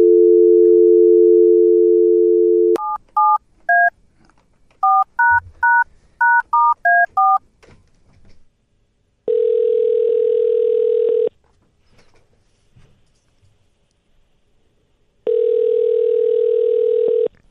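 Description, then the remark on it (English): A steady phone dial tone gives way to a quick series of about ten beeping touch-tone digits, then two long, loud ringing buzzes separated by a pause, with no voices, as a call is placed from WGN Radio. “Let's give him a call right now and see if he picks up, and we'll have a quick chat here”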